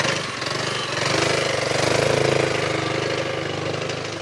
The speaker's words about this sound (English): We all know Paris can be romantic, but it can also be noisy. Vehicles of all kinds clog the narrow, congested streets, which makes scooters and motorbikes one of the best ways to get around.